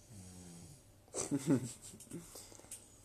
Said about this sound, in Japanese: すごい、なんかいびきがすごい、なんか すごいなんかボリューム増してません？ すごいなんかおとんのいびきがすごいんですけど いびき すごいよ。